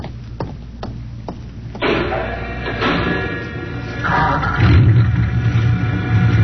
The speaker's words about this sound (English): You start the mechanism to open the garage door, then jump onto the truck.